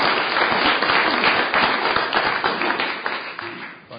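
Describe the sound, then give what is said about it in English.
A crowd applauds Frank for his hard work with dense, steady clapping that stays loud for several seconds, then gradually thins and fades toward the end. “One more round of applause for Frank and his hard work.”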